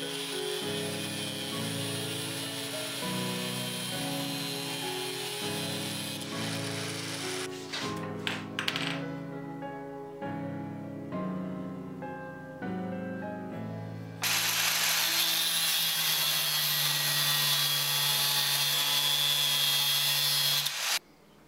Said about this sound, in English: Mark the solid rod and cut on the marks.